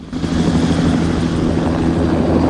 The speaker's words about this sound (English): As dawn breaks, the helicopters and search parties are still out looking for the girl. The choppers fly over the railway line. They pass over Fitch and his two aides.